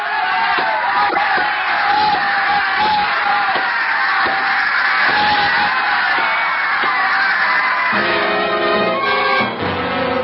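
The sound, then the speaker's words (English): A large crowd screams for the kill in a loud, unbroken roar that fills the whole stretch, with a few sharper shouts poking through and a more tonal bellowing near the end. “The crowd was screaming for the kill as I walked out.”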